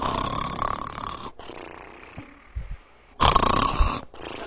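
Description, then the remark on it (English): A person imitates the loud snoring of a husband asleep in church while the preacher preaches: two long, raspy, rattling snores, each followed by a quieter breath out, with no other talking. “As soon as the preacher would start preaching, he'd go to sleep. And he snored.”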